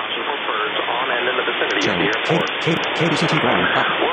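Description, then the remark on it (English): A narrowband automated airport radio channel announcing weather and airport information, buried in steady hiss and static, with an automated voice faintly reading through the noise for the whole few seconds. “That's their automated channel settings, to button. Announce weather and want airport information.”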